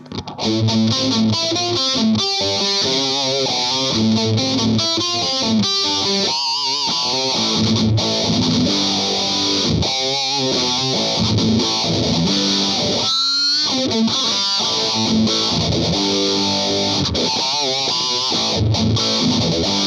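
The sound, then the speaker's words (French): A heavily distorted metal electric guitar riff with a sweeping phaser swirl rippling through it, the phaser pedal placed before the metal distortion, played loud and continuous for the whole stretch with no voices. “La même chose, le phaseur avant, mais avec une distorsion métal.”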